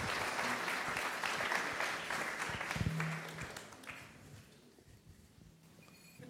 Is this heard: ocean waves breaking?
no